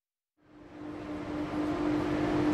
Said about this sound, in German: Auf Gleis 3 bitte zurückbleiben. Der Zug fährt ab. Der Bahnhof.